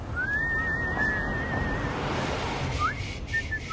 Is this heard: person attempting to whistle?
yes